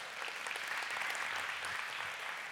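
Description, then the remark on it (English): A church audience at Mosaic applauds steadily for the pastor and his wife, a dense wash of many hands clapping at an even, fairly loud level with no pause and no voices over it. “Before we do, can we give Pastor Naeem and his wonderful wife Ashley a round of applause?”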